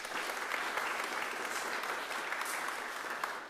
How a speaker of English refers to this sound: So I want to congratulate all the people who presented to us, because I think they were brilliant examples of what can be done. Maybe we should give them a round of applause.